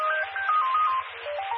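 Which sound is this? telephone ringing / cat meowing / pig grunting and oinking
telephone ringing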